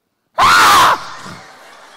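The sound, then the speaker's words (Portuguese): A person imitates a woman's single piercing scream, sudden and very loud, lasting about half a second before cutting off and leaving a fading echo. “Ela deu um grito tão grande, que quase eu subo aquele pilar.”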